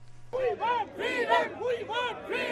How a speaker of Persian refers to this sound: ما آزادی میخواهیم، این شعار خبرنگاران پاکستانی است که در اسلام آباد مظاهره کردند. آنها تقاضای حق کار در فضای بدون تهدید و اذیت را دارند.